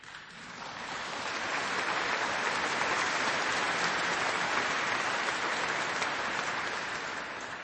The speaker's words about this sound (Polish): W tych ogólnikach też, o czym świadczą i te oklaski, wszyscy wiedzą, o co chodzi.